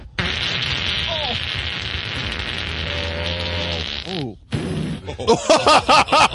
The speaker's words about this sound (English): Down and we hear what is commonly known as a fart.